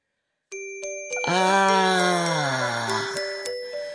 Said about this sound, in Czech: O prvním jarním úplňku je orloj připraven. Horní olomoucké náměstí hůčí předspané měšťany i venkovany k prasknutí. Každý touží spatřit zázrak lidské vynalézavosti. Na věži nad šumícím davem odbylo 12 cinknutí. Poledne.